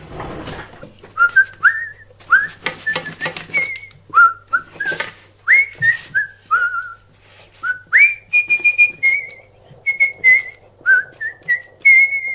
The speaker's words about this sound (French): Aujourd'hui, 4e épisode, on fait la vaisselle en sifflotant. Hop, ça tourne.